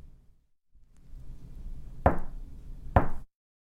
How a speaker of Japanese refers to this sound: 小狐は教えられた通りトントンと戸をたたきました。